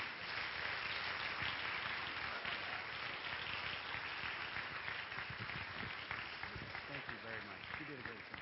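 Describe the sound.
A church audience applauds a pastor with a steady, dense wash of hand claps lasting several seconds, fairly loud throughout, with voices starting to come through as the clapping continues toward the end.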